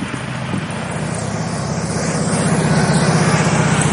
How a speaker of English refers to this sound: And that, there's a guy on a motorcycle.